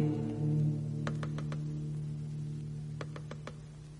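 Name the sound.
knocking on a window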